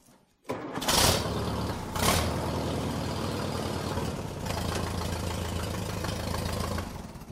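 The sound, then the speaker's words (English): A 1952 Allis-Chalmers WD farm tractor, not started for 2 months, cranks and catches after a brief silence, revving with a couple of loud bursts before settling into a steady, rough, loping idle. “This tractor has not started for 2 months.”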